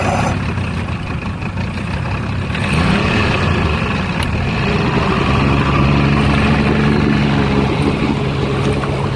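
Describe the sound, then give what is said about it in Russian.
A motorboat carrying a search for illegal fishing nets runs its engine steadily, a loud continuous drone with a low rumble and some water wash, growing slightly louder partway through. No one speaks. “Сев в катер, мы отправились в те места, в которых чаще всего устанавливают сети.”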